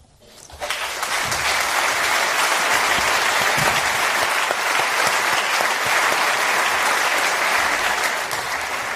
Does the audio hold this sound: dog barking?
no